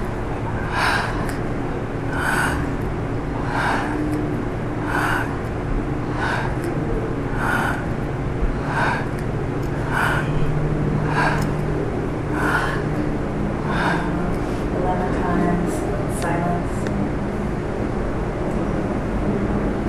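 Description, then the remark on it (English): A steady series of about eleven sharp, breathy whispered 'yahak' syllables chanted on the breath, evenly paced roughly once a second, moderately loud over a low continuous rumble, then trailing into softer breathing. “Now, 11 times, breathing in or whispering on the breath.”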